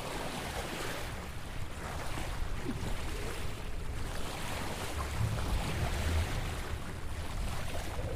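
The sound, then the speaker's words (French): Steady wind rushes and buffets across the microphone aboard a sailing boat under sail with its engine switched off, around 17:50 at sunset, with waves washing in the background; a continuous, fairly loud outdoor roar with no one speaking. “Regarde, le vent souffle dans les voiles.”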